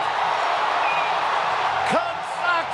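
A stadium crowd roars in a steady, dense wall of cheering after Chris Morrell's game-winning three-run home run for the Cubs, with a sharp rising whistle or whoop cutting through near the end.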